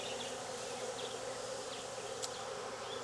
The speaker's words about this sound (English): I've got a box full of bees that I've shaken and also in the box. So if she's not in the shaker, she's in the box. I'm really hoping she's in the shaker. Searching for swarm queens inside of a box of bees is not easy.